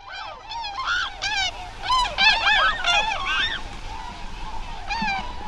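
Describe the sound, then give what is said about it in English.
Tundra swans call in a loose chorus, many overlapping honking, bugling notes rising and falling over a soft steady background rush, with no one speaking. “Swans, like the tundra swans calling in the background, have long exalted the human heart.”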